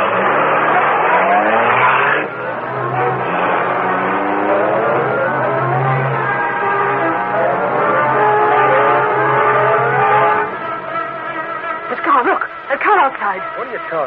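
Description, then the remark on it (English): The Black Beauty, the Green Hornet's car driven by Cato, roars and accelerates at high speed, its pitch sweeping upward through repeated gear changes, loud and steady for about ten seconds before fading into rougher, choppier engine noise. “high-speed Black Beauty, car of the Green Hornet. You drive the Black Beauty, Cato.”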